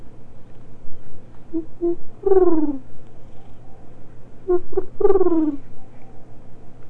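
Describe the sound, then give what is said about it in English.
A bird outside calls twice, each time a couple of short clipped notes leading into a longer, falling, harmonic cry, fairly clear over a low steady hum with no one talking. “I hear a bird out there.”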